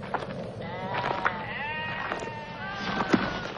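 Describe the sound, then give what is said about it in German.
About 30 sheep bleat in overlapping, wavering calls, a flock lying on the ground resting beside a shepherd, with steady bleats throughout and no one speaking. “Neben ihm lagen etwa 30 Schafe auf der versenkten Erde und ruhten aus.”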